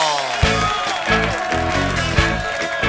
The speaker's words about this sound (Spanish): ¡Un aplauso!